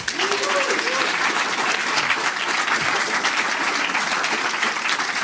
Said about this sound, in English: So yeah, I think we can do a big round of applause for the various sponsors.